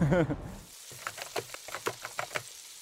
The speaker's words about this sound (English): Frying food scares me because it's boiling oil. I was terrified of the oil coming out of the pan and getting to my skin.